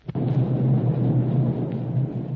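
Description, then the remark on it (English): A deep, low rumbling boom of a distant explosion coming from Galto Island, heard off a ship's starboard side, starting with a sharp onset and then rolling on steadily for a couple of seconds with no voices. “And those explosions are coming from Galto Island.”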